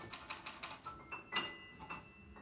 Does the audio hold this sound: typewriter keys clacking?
yes